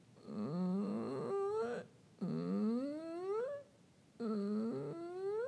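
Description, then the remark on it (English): A voice does the squeaky door vocal exercise, imitating a squeaky door with three creaky, rising vocal glides, each climbing slowly in pitch for a second or more, separated by short pauses, moderately loud with no other talk. “Can you imagine the squeaky door?”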